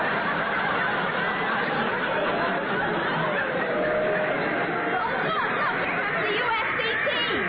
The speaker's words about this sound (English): Yeah, listen to that crowd.